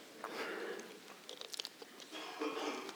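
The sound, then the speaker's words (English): Soft sipping of water: quiet slurping mouth sounds with a cluster of small wet clicks midway and a gentle swallow, no talking. “Good, I just need to take a sip of water, so thank you.”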